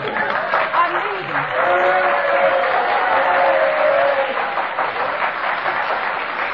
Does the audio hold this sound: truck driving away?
no